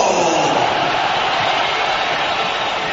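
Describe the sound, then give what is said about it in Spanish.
A big stadium crowd, divided between applause and whistles as coach José Mourinho is announced, roars in a steady, loud wash of noise, with applause and whistles mixed into the dense, unbroken din for the whole stretch. “Hoy hay más palmas que pitos, pero sigue el público dividido, ¿eh?”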